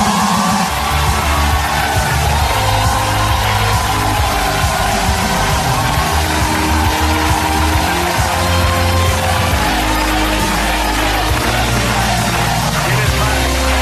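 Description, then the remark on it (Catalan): A studio audience cheers and chants "presidente" loudly and continuously, greeting PP candidate Alberto Núñez Feijóo on Pablo Motos's show, a dense wall of voices with a steady low rumble beneath it for the whole stretch. “El públic cridava presidente mentre Motos li deia tienes fans.”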